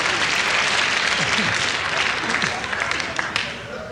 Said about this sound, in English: Thank you very much for applauding on that. Thank you.